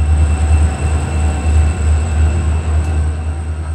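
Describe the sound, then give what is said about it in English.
A freight train carrying oil tank cars passes underneath on railroad tracks in Philadelphia, a loud, steady low roar with rhythmic wheel thumps and a faint high metallic whine running throughout, no voices. “We pause, a train carrying oil tanks passes underneath.”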